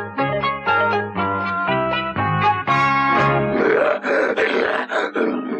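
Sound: lion roaring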